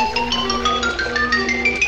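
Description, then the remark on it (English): A man plays a quick run of bright, ringing mallet notes on a xylophone, each struck tone sustaining briefly as the melody steps up and down at a steady pace, fairly loud with no voices. “Man playing xylophone.”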